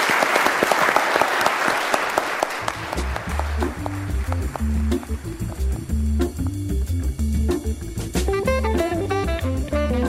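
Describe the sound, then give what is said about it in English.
A burst of audience applause for a mock jury, dense and lively, fills the opening few seconds before fading into a steady, bass-heavy musical passage that carries on to the end. “Round of applause for our jury for really”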